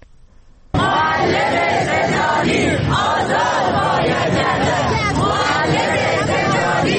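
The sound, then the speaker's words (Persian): A crowd of retired cultural and state employees protesting in front of Iran's parliament (Islamic Consultative Assembly) in Tehran on a Sunday chants slogans together in support of imprisoned workers and teachers, loud and continuous, their voices rising and falling in rhythmic waves after a brief quiet start. “روز یک شنبه جمعی از بازنشستگان فرهنگی و کشوری نیز در تهران در مقابل مجلس شورای اسلامی تجمع کردند و در حمایت از کارگران و معلمان زندانی شعار سر دادند.”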